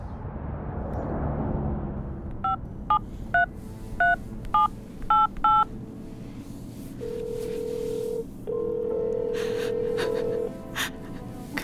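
A telephone number is keyed in: about eight quick, bright beeps in uneven succession over a breathy rumble, then two long, steady electronic ring tones follow.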